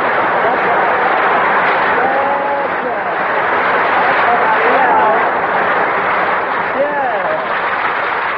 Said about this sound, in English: Okay, folks, the show may be flopping, but now … is here to start things popping, so shower me with that sun-kissed applause.